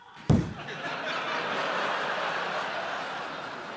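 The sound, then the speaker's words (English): A single thunk as a refrigerator door pulls open, followed by a steady, airy hiss that fills the rest of the moment without fading. “The first sign that something's wrong is when you hear this when you open the door.”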